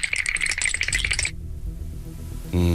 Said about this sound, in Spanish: Estamos agitando un bote de pintura en spray de estos.